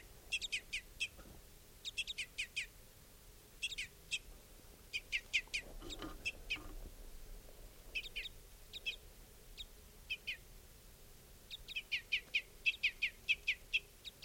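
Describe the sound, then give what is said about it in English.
An adult type 5 bird, apparently a female, calls repeatedly at a camp in quick bursts of short, high chip notes, three to six at a time, separated by brief pauses, over a low steady background rumble. “The adult's also calling now.”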